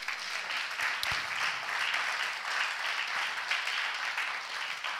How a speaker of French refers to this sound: On applaudit le Seigneur.